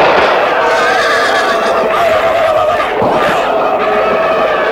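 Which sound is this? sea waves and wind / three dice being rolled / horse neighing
horse neighing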